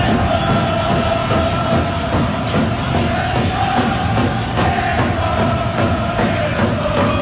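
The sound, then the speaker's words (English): A dense stadium crowd at a Japan match chants the Nippon song in unison over a steady, pounding drumbeat, the loud roar continuous and rhythmic with repeated accented beats throughout. “So this is what the, this is what it sounds like in the crowd when they're chanting the Nippon song.”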